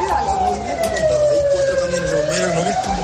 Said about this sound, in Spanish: Todo ocurría después de las 11 de la noche, cuando se oía un fuerte estruendo y después ambulancias.